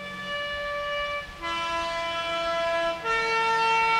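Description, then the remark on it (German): A loud alpine horn signal heard in the Swiss mountains, of three sustained, reedy tones: the first drops a major sixth to a low note, then the melody steps back up to a middle note, with no voices. “Dieses Signal begegnet uns in den Bergen. Die ersten beiden Töne darin bilden eine Sechste, genauer eine große Sechste, fallend.”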